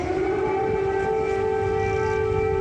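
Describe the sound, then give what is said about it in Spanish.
An air raid siren sounds in the streets of Kyiv, a loud, sustained tone that holds a steady pitch throughout, with a faint low rumble underneath and no voices. “Uno de los momentos más impactantes de la visita se dio cuando ambos mandatarios salieron a las calles de Kiev, acompañados por el sonido de una sirena antiaérea.”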